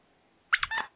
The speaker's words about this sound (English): What was that? It's a dog toy.